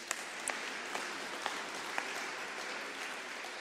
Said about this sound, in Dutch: Nou, ik denk dat dat wel echt een applaus waard is.